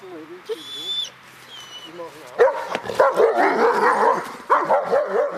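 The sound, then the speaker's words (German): Several guard dogs bark in a loud, dense, overlapping chorus that erupts partway through and keeps going, after a quieter opening of high, thin whining tones; after nightfall the dogs guard the grounds of Germany's foreign intelligence service. “Mit Einbruch der Dunkelheit übernehmen die Hunde die Sicherung des Areals.”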